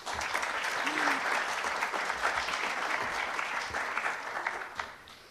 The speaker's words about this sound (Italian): Benvenuti a tutti e ringrazio subito Marcello Fois per aver accettato di essere qui. Un applauso.